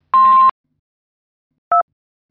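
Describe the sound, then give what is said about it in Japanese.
A short buzzy electronic beep, then after a pause of over a second a single brief telephone keypad tone as a digit is pressed in reply to an automated phone menu asking to confirm a contact phone number, clear with no talking. “よろしければ1を、訂正される場合は2を入力してください。”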